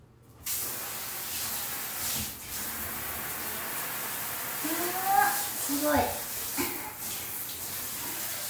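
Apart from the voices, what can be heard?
shower water spraying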